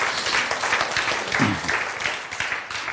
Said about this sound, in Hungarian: egy nagy tapsot ennek a fiatalembernek.